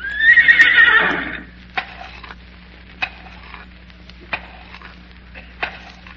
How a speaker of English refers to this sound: Yes, sir, that's really an educated horse. Now, watch this. Yeah. Hey, boy. Now, pay attention, horsey. What is two and two?